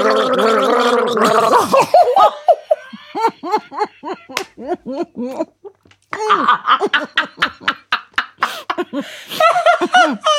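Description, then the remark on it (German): People gargle a song melody together, producing wet, bubbling pitched tones in a rising and falling tune, broken by bursts of laughter at the start and short pauses between phrases. “Komm, wir gurgeln mal zusammen.”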